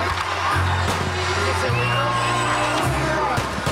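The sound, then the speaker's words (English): Fireworks crackle and bang over music with a steady, shifting bass line, while whistling rockets glide upward and a crowd cheers and whoops throughout, at a US Independence Day party in Texas. “Fireworks and music highlighting a party in Texas.”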